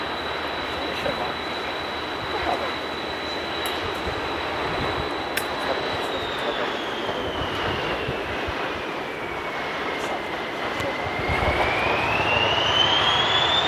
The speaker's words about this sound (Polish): Zamknęły się szlabany na przejeździe na warszawskiej i jedzie lokomotywa.